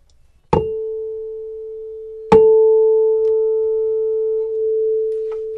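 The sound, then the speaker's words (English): A tuning fork on one of two boxes is struck twice in a resonance demonstration, each sharp tap followed by a steady, pure mid-pitched hum that rings on evenly without fading much. No one speaks. “And I'm going to bang the tuning fork on this side, and then I'm going to stop it from making a sound.”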